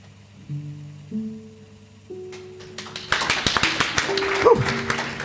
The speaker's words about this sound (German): Das war knapp. Da hätte ich fast falsch geklatscht.